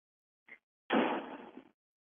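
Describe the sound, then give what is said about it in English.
A man closes the front door after coming in from the driveway: a brief click, then a sharp, fairly loud closing rush that fades over most of a second, with no voices around it. “Now he's closing the front door.”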